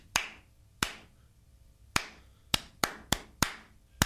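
A rhythm clapped out by hand: eight sharp, bright claps with uneven spacing, a few spread out at first, then a quicker cluster near the end. Each clap rings briefly, with no voices.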